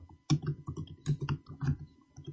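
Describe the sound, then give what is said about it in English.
Steady typing on a laptop keyboard: a quick run of clicky key taps in an uneven rhythm, fairly loud and with no voices over it. “That's just his laptop, man. I love the feel of these keys, though.”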